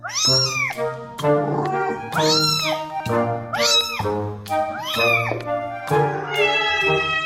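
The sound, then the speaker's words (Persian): A cat meows repeatedly and loudly, about five drawn-out, rising-and-falling calls in a steady rhythm, with no talking. “چنانکه آقای دریزین می‌گوید کاربران تاکنون با استفاده از این برنامه 1 میلیارد میوی متفاوت گربه‌ها را بررسی و ترجمه کردند.”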